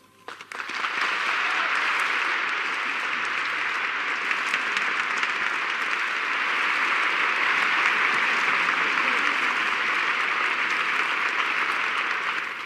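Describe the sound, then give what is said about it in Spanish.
Sustained audience applause for Montserrat, a dense wash of many hands clapping at steady loudness for over ten seconds without a break, with no voices on top. “En nombre de los que están y los que sienten muy lejos de estos palcos nobles y entrañables, pedimos para ti, Montserrat, un aplauso, el más sincero que pueda brotar de quienes nos escuchan.”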